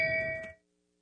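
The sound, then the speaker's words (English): A single bright bell ding, rung as a shaming sound effect, rings out clearly, its steady metallic tone holding for about half a second before cutting off into silence. “Give him the bell.”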